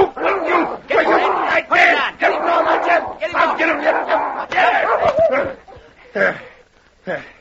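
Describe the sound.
A big gray dog snarls, barks and yelps in a frantic attack, with a few sharp thumps as it is struck with a gun, then fades to whimpering. It may be a voice imitating the dog.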